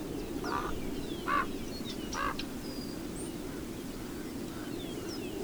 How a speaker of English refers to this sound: We leave you this week in the desert, the Sonoran Chihuahuan Desert in New Mexico, with the sounds of the wind and the Chihuahuan raven.